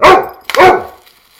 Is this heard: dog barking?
yes